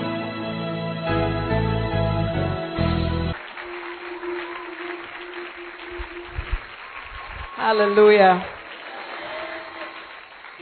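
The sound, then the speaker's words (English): A short burst of music gives way to a crowd clapping steadily, a dense wash of applause that continues for several seconds while a voice calls out briefly over it. “I think that's a very good clap for a vessel of clay like me.”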